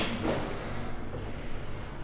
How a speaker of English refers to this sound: It has a chair, which you can hear that I'm rolling around. Actually, I just rolled it back to sit on.